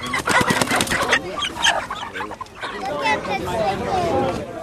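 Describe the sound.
Live chickens (hens) cluck and squawk in a busy, crowded synagogue in Farmington Hills during kapparot, a Jewish ritual performed before Yom Kippur, while a murmur of people talking fills the background, the bird calls coming in short, overlapping bursts.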